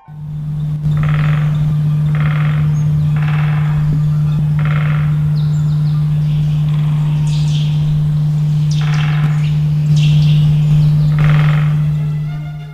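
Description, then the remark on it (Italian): A woodpecker drums on a branch in short rapid bursts, repeating about once a second, with occasional bird chirps over a steady low electrical hum. “L'uccello stava battendo energicamente il becco contro il ramo dell'albero.”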